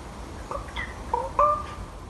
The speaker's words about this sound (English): And Niall Hatch tells us that that very curious sound is in fact a crow. Crows, it seems, are capable of making all sorts of weird noises.